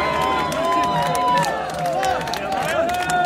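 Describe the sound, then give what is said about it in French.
A dense crowd on the pavement cheers and applauds steadily outdoors for a passing march of PSA Aulnay and PSA Poissy workers protesting against layoffs, with sharp claps, whistles and shouts layered over a continuous roar of many voices, loud throughout. “Interdiction des licenciements PSA Aulnay, le cortège des PSA qui est bien applaudi par les personnes qui sont au bord du trottoir.”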